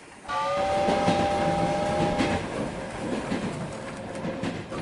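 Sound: train rolling on rails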